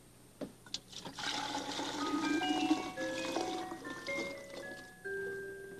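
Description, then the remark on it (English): Chilled cream mixed with sugar pours steadily into a metal ice cream canister for several seconds, a continuous splashing and trickling with rising ringing tones as the vessel fills, after a couple of brief knocks. “Now we'll pour this into there.”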